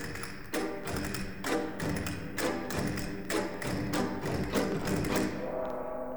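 Castanets click in a steady, regular rhythm while a gong's deep, shimmering tone sustains underneath, filling the sound with a rich metallic wash throughout.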